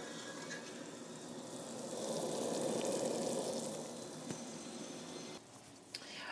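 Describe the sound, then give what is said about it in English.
A pan of thick crab apple jelly mixture boils hard for a few minutes until it thickens, a steady roar of bubbling and popping that swells slightly midway, with a couple of sharp clicks near the end and no one talking. “So I'm going to give that a really good boil for a few minutes until I can see that it's just starting to thicken up and starting to show some little quiet wrinkles across the top, and then it will be ready to test.”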